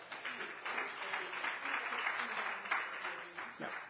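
A crowd applauds steadily for several seconds, a dense wash of many hands clapping at once, fairly loud and continuous without a break.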